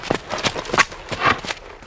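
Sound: horse hooves clip-clopping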